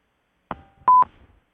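A short electronic telephone beep signalling a caller on the line: a click, then a steady mid-pitched tone lasting about a fifth of a second, fairly loud, with no talking over it.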